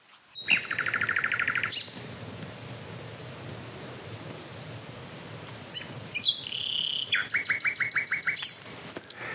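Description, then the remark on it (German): A nightingale sings in bursts of rapid, repeated high notes, first one fast trill, then after a pause a pure whistled note leading into another quick stuttering series, over a low background rumble. “Ja, früher habe ich immer gesagt, dass die Nachtigall nicht so einen besonderen Gesang hat im Vergleich zu, aber wenn ich ehrlich bin, also welcher Vogel ist schon vergleichbar mit einem anderen Vogel?”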